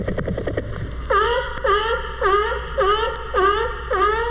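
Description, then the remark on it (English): A capybara vocalizes contentedly: a brief buzzy, clicking stutter, then about six evenly spaced, harmonic whining calls, each dipping and rising in pitch, with no voices. “And this is the sound the capybara makes when he's pleased.”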